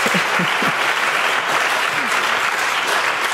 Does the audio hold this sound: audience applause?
yes